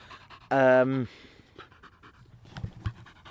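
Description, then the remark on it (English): A dog pants in short, breathy bursts, uneven in rhythm and fairly soft, following a brief loud tonal cry at the start. “Bloody hell, dog, that's very off-putting.”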